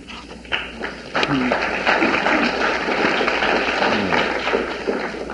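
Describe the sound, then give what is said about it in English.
An audience applauds a poem at a poetry reading with a dense, steady wash of clapping that holds for several seconds at an even, moderately loud level before tapering slightly at the end. “I guess I'm going to ask if you, in the event that you should like another poem enough to applaud it, to hold it to the end, because eventually there'll be one you won't applaud, and I'll be driven crazy wondering why you didn't like it.”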